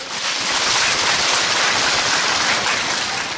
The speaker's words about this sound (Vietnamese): Sư bảo đấy là những người chúng ta cần phải vỗ tay lớn nhất để mà khen các người lớn tuổi mà lên hát để mà tặng cho các cháu. Cho một tràng pháo tay đi.